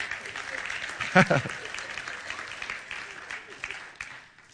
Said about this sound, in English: Come on, clap your hands in this house.